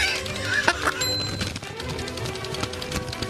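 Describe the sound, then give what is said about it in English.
Steady crackling and crinkling of paper being handled, with scattered sharper crisp snaps over a dense rustle that runs throughout. No one speaks. “We got to keep the rustling of the paper.”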